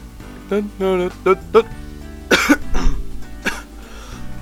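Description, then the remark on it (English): Someone coughs several times, short harsh bursts with a throaty, voiced edge, followed by a couple of quieter coughs, over a faint low background hum. “Right, can't be coughing in this thing.”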